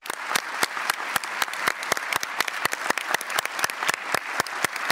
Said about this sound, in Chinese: 在12月2日原子能机构大会特别会议上，该机构171个会员国的代表以鼓掌方式核准了对他的任命。